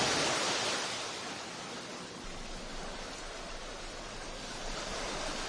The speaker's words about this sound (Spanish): Esto que oyes es el sonido del mar. Son las olas del Atlántico que bañan el puerto de Santa María, en la provincia de Cádiz.